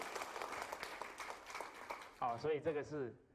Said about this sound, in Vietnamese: Tốt rồi, cảm ơn anh. Xin cho anh ấy một tràng pháo tay.